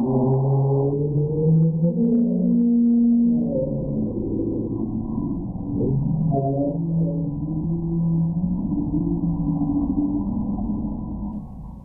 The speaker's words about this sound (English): And here's another sort of a whale. Have a listen to this.